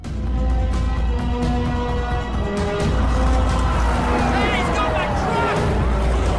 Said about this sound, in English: The workmen are forced to dive out of the way as someone drives past them down the road in their truck. Two police cars follow just behind.